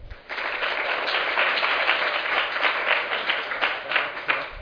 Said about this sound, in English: Please give our panelists another round of applause for such great presentation.